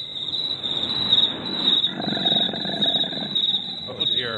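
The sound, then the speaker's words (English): Crickets chirp in a steady, shrill trill that runs unbroken through the whole stretch, with a rough, low rumbling noise churning underneath. “When we let the crickets play too long, some of the other forest animals come out.”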